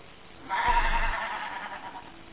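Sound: sheep bleating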